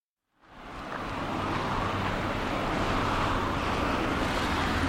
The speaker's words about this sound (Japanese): 今度は車の通りの激しい県道の方に出てきました。